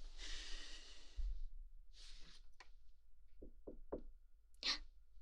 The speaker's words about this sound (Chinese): 有人敲门，应该是主人，我去开。